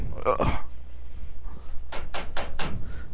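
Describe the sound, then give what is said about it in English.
Four quick, sharp knocks rap on a door in a steady rhythm, fairly loud, following a brief clatter and some faint background voices. “Someone came in and knocked on us.”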